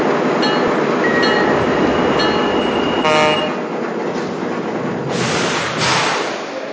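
Adirondack Railroad train 8223 pulls into a station on track one, its loud, steady rumble and clatter filling the air, with faint high squeals and a short, sharp horn blast partway through.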